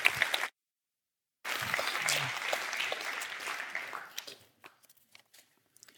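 An audience claps for the speaker of the first lecture at an evening lecture event, a sustained burst of applause, dense and fairly loud, after a brief opening snippet and a short silence, then thinning out to a few scattered claps before fading.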